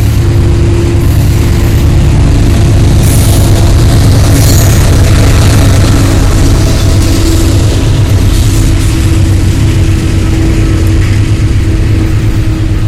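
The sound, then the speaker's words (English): A train engine laboring hard as it gets started, going the opposite way on a single track without ringing its bell; a loud, steady diesel drone with deep rumbling harmonics and hissing bursts, sustained throughout as it passes, with no talking. “There's another train.”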